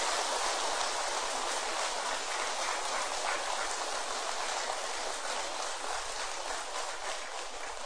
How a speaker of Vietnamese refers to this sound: Xin vị hãy dành một tràng vỗ tay thật to để phát nguyện.